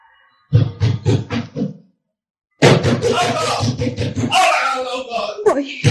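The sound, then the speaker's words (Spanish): A quick series of about five firm knocks on a door, fairly loud, followed after a short pause by people talking. “Si pudiera llegar a la puerta.”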